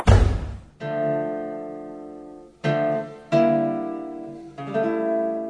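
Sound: door slammed shut loudly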